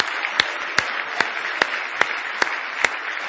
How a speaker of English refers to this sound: Isn't God good? Give Him a big hand clap of praise if you love Him tonight. With all your heart.